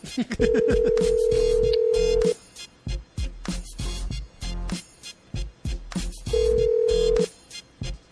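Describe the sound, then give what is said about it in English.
An outgoing call rings through a phone line: a long steady ringback tone, a pause of several seconds, then a second shorter ring, with a busy background bed playing throughout. “She better answer the phone, too.”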